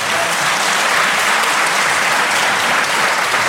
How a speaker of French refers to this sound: Applaudissements dramatiques.